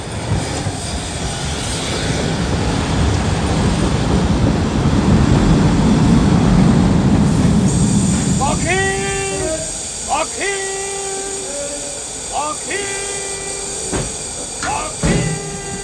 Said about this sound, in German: Na, da ist er ja, der Zug.